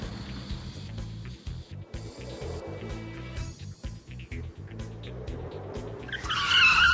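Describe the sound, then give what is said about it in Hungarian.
A car is shifted back into second gear and given a big burst of throttle: the engine revs hard with a throbbing, pulsing low rumble, building to a loud, harsh tire skid squealing over it in the final second. No voices. “Visszakapcsolunk kettesbe, és adunk egy kövér gázfröccsöt.”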